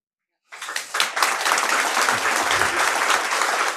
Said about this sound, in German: Keinen Satz gesagt und bekomme dauernd Applaus.